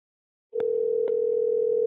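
A telephone ringing tone begins after a brief silence, a steady, clear electronic hum heard alone with a couple of faint clicks on the line and no voices, calling the number of a man who had disappeared.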